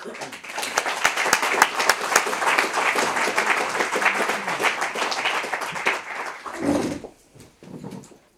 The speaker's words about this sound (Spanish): Entonces, bueno, pues un poco, pues un aplauso para ellos y muchas gracias.